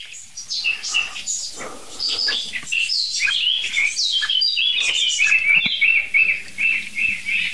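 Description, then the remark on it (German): A blackbird sings steadily with busy, overlapping phrases, and brief tit calls slip in between. The birdsong is continuous, with no one talking. “Es nervt im Augenblick wirklich nur die Amsel, so wirklich. Und die Meise mal ganz kurz zwischendurch.”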